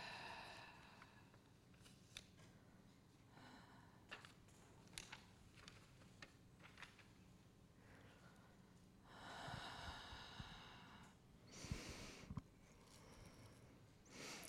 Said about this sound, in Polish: Wdech. I wydech.